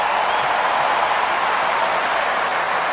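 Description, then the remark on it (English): Steady applause from an audience for the player Marin after a match he finished despite an ankle injury, a dense, even wash of many hands clapping at once, loud and sustained for the full three seconds with no voices standing out. “I mean, Marin was carrying an injury of an ankle for the last couple of matches, so he was courageous enough to come out and finish the match today, so applause for him.”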